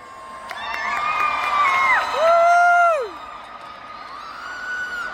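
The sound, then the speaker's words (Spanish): A small crowd cheers and shouts to vote for a contest participant, with several overlapping voices holding long, rising and falling yells for a few seconds before fading into general noise. “Muy bien, gente, vamos a votar ahora porque mucha paja, yo ya quiero ir a la feria.”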